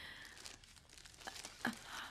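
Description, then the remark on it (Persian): Continuous crinkling and rustling of very shiny gift wrapping paper on a present, with irregular crackles and a few sharper snaps as it is handled, heard alone without any talking. “کاغذ کادوی بسیار درخشانی داره.”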